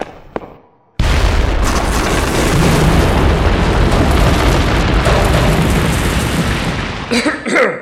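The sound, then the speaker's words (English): A sudden, massive explosion erupts after a brief quiet, its roaring, rumbling blast sustaining loudly for several seconds before tapering off into scattered crackling debris. “We must get some distance between ourselves and the explosion.”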